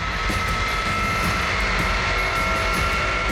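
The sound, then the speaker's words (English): Engines of a C-5 cargo jet whine steadily over a dense, unbroken roar, with high tonal streaks running through the whole stretch; distant but fairly strong and continuous, with no voices. “The distant but unmistakable sound of the C-5's whining engines.”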